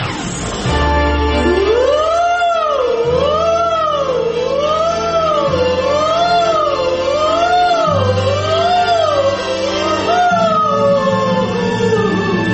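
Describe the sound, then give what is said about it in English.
A fire engine siren played from a record, track 2 of an album, wails loudly, sweeping up and down in a steady repeating cycle about every second or so over a low, rumbling engine drone, with no voices. “Track 2 from ….”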